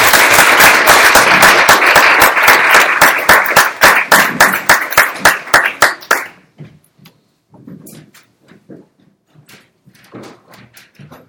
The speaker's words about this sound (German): Sehr schön, dass ihr da seid. Gerne nochmal einen großen Applaus.